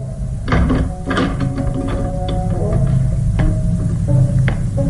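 A bedroom door handle rattles and clicks a few times as hands reach it, then the door creaks open, with sharp metallic taps over a steady low rumble and no voices.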